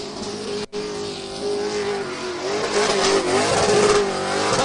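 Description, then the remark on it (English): A loud stock car engine revs hard and steadily during a victory burnout on the racetrack after a Pro Stock Tour race, a sustained high-pitched roar that swells and wavers near the end, with a brief dropout early on. “Cole Butcher is burning it down”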